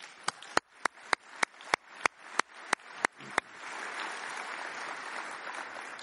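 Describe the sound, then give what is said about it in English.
Audience applause for a dance troupe that starts as a dozen or so sharp, evenly spaced claps in a steady rhythm, then swells into a dense, continuous wash of crowd clapping. No one speaks. “And let's have another round of applause for that fantastic dance troupe.”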